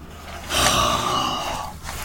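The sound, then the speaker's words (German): A three-month-old pig snorts once, a raspy, breathy sound lasting just over a second with a faint tonal edge, followed by a softer short puff of breath. No one speaks. “Ich nehme kleine Schweine auf.”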